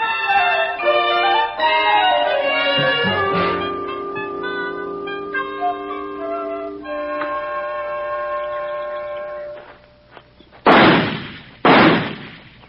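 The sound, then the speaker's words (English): Two sharp gunshots from new target pistols crack out about a second apart, loud and abrupt, during target practice at a target on a tree, following a stretch of sustained tonal music with no talking. “Hey, you still fool around with your target pistols?”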